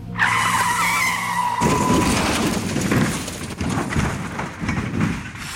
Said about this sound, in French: Tard dans la nuit, entre 5h et 6h du matin, j'ai entendu le bus déraper. J'ai ressenti les vibrations, puis ce mouvement.